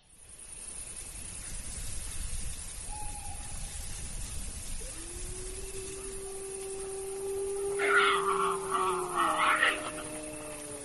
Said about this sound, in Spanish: ¡El lobo! Pues ese que gruñe es un jabalí que tiene un susto y tiene razón, porque detrás está el lobo llamando y la manada respondiéndole.